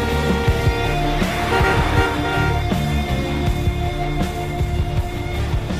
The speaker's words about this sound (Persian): ماشین سمیرا از دور با سرعت میاد و از همه ماشین ها سبقت میگیره. با سرعت میره. برای همه ماشین ها بوق میزنه